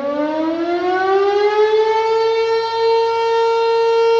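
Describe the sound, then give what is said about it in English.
A loud, steady siren from behind the volunteer fire station in Minden, Douglas County, wails continuously, its pitch slowly rising and then holding high, with strong harmonic overtones and no voices present. It sounds twice a day and can be heard for miles. “The siren wails from behind the town's volunteer fire station and can be heard for miles.”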